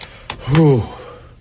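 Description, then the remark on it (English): A single loud, heavy breath through the nose, voiced and slightly groaning, swelling and fading in under a second, seemingly a person imitating noisy nose breathing, with no talking. “Mouth breathing has a distinct sound, man. That was nose breathing.”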